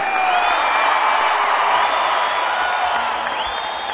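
audience yelling and cheering

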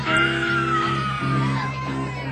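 women in audience screaming

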